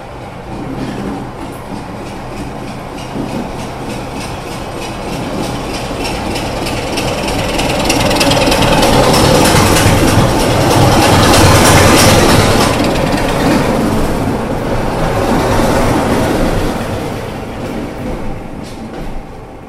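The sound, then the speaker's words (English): Two light-engine locomotives, a 26 and a 27, rumble past coming out of the railway yard into the main platform to work the next train, the sound swelling to a loud, dense roar mid-way with rhythmic clattering of wheels over rail joints, then easing off as they move on. “They're just coming out the side of the... They're coming out the yard, going into the main platform to work the next train.”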